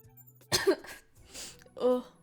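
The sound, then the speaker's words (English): A voice imitates fart noises with a few short, raspy blasts, one sputtering burst followed by a breathy hiss and a buzzy, tonal finish, with no actual words spoken. “Oh, I didn't fart. I was just making fart noises.”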